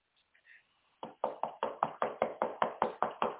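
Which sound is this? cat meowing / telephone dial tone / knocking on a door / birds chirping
knocking on a door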